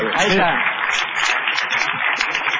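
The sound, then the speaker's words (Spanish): Steady, dense applause from a small group for the musician fills the whole moment, with a voice briefly speaking over the clapping at the start. “Un aplauso para el músico.”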